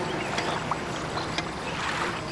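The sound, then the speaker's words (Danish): Water trickles and laps in a steady, hissy wash, with small splashy blips scattered through it at an even, moderate level. No voices are heard. “Vend nu opmærksomheden mod det rislende vand.”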